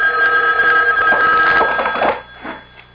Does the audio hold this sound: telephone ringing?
yes